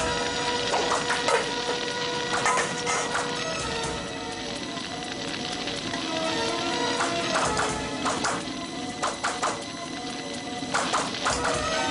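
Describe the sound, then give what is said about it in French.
A chef cooks meat in a hot wok so it does not stick to the bottom: steady sizzling, a dense crackling hiss with repeated short bursts of spatula scraping and clanking against the metal, fairly loud, with no talking. “Ah, c'est une méthode pour cuire la viande sans qu'elle attache au fond du wok.”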